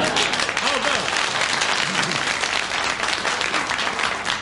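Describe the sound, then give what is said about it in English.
Steady, dense applause from an audience fills the whole stretch, a loud wash of clapping with faint voices murmuring underneath. “Let my four fans applaud, please.”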